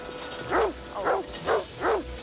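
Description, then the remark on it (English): A dog in a large dog cage, pushed by a man toward an airport cargo area, barks four times in a steady, evenly spaced rhythm, each bark a short, clear yelp at moderate volume with no voices around it. “Jake sees a man push a large dog cage labeled New York JFK.”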